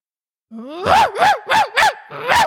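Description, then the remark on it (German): A person's voice imitates a barking dog: five loud barks in quick, fairly even succession, the first starting with a short low whine, with no other talking. “Ja gut, das ist ein Hund.”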